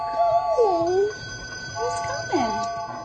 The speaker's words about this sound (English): The train's bell rings, the whistle blows, the headlights come on, and the engine eventually takes off, pulling a passenger car loaded with a green cat, a yellow bear, a purple rabbit, and a yellow dog with red ears.